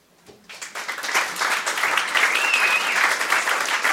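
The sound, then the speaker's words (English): An audience at an evening storytelling event breaks into applause after a story reading, rising quickly from a few scattered claps into a steady, dense wash of clapping that holds loud and even, with a faint whistle or cheer cutting through midway. “Round of applause”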